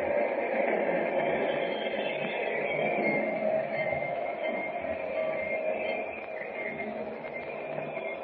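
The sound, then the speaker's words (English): A train slows as it pulls into the station, rolling in with a steady rumbling, hissing roar that eases off slightly toward the end. No voices. “Well, now I'll have to wait until he pulls out of the station. Maybe it's best. He's slowing up.”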